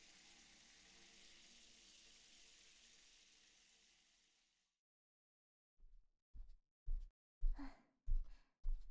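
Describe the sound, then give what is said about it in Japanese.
A person takes a shower: water sprays with a steady hiss for several seconds, then fades out; after a brief silence, a series of soft, evenly spaced thuds follows. “まずはシャワー浴びてきますね。”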